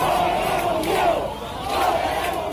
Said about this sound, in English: But you know, is it fair to say that this is also about repression? I ask this question because you hear a lot of chants like down with the dictatorship.